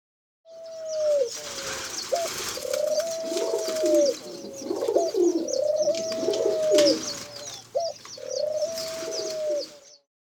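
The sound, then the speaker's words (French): Several pigeons coo in repeated, rolling phrases, their soft throaty calls overlapping with faint chirps and background chatter of other birds throughout. “I can hear pigeons.”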